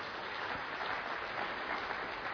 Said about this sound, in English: And let's give the same applause. Amen?